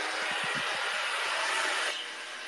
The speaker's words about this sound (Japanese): それでは髪の毛を乾かしたいと思います。静かにしてほしいなっていう方は出てった方がいいと思います。それではドライヤーします。